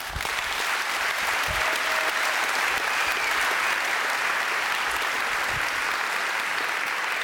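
Sustained applause from an audience, a dense, steady wash of clapping that holds at an even loudness throughout with no voices rising above it.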